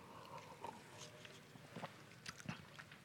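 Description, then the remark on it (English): A speaker takes a quick sip of water: a few quiet, soft slurps and small wet clicks of swallowing, spaced irregularly over a few seconds, with no talking. “I'll just have a quick sip of water here.”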